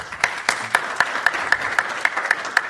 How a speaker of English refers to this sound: Lovely smattering of applause. Thank you very much.